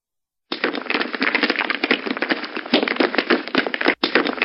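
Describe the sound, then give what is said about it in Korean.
A dense, rapid clatter of stones striking a window, like a shower, sharp overlapping cracks and taps at a steady loud level with one brief gap near the end. “잠시 후 소나기처럼 무언가가 창문을 때리기 시작했다.”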